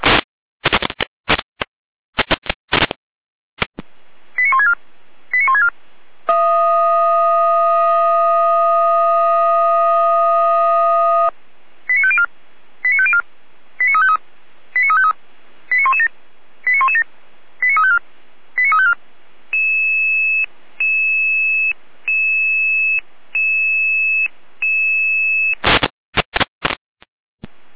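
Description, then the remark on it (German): Fire brigade radio alarm call tones alerting the Pößneck fire brigade to a hedge fire in Pößneck: bursts of static clicks, a long steady chord of tones, a quick run of short beeps, then an evenly pulsed tone, loud and with no talking. “Hier haben wir einen Alarmruf.”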